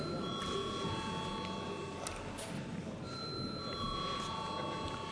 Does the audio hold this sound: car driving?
no